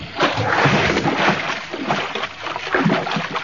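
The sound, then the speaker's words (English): A person plunges into water with a loud splash, followed by continuous churning and sloshing as the water keeps moving for a few seconds. “I'm going in after him.”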